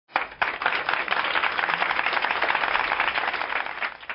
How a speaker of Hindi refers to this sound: जोरदार तालियों से इनका स्वागत कीजिए।